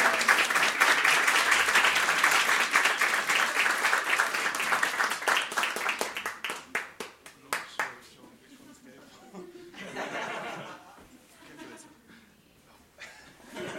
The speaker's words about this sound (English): Clap like your hands are on fire